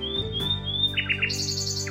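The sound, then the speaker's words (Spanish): A small gray nightingale perched on a high branch sings a clear, high whistled phrase followed by quick rippling trills and chirps, bright, over a steady low droning hum in the background. “Era el ruiseñor.”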